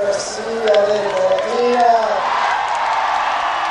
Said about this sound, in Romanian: Apoi, de la balconul central al edificiului, a salutat și binecuvântat pelerinii care l-au primit cu aplauze, cântece de bucurie și fluturi în stegulețe.